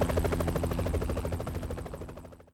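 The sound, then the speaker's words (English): A helicopter thunders overhead as it drifts over an alley, its rotor blades chopping in a fast, steady rhythm over a deep engine drone, staying loud before easing off slightly at the end. “A downblast hurricane beat down on them as a helicopter drifted over the alley, and another million candle power spot pinned them to the alley's noisome floor like bugs.”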